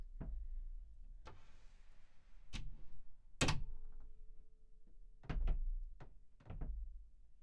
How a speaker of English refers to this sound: I am going to get up and leave the room in a moment. You'll know when I'm left because you'll hear the door shut.